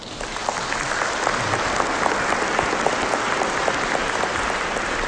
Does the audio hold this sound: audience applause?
yes